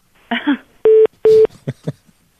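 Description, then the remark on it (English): Two loud, steady telephone keypad tones beep one after the other, each about a fifth of a second long, with brief murmured voice sounds just before and after them. “That'll get her on the phone.”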